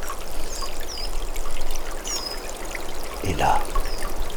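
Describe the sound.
A small stream trickles under clinging pines in a steady, continuous babble, with a few faint, high chirps of tits above it and a single brief spoken word near the end.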